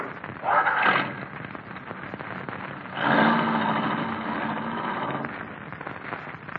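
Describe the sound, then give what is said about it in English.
An old car engine runs roughly, a steady rattling chug that swells into two louder, sputtering surges before settling back to a noisy idle. No one speaks. “This your car? Yeah. I'll sure be glad to get rid of this clunk.”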